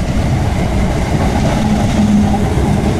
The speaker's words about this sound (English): Oh, here comes a train. Look.